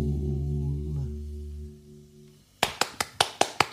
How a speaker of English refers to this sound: 19, 11, 12, 13. 13 claps. Yeah. That's my scoring system.